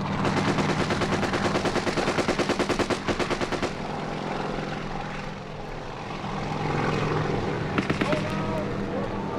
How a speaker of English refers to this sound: We're going in. Our chopper's gunner opens up on the tree line.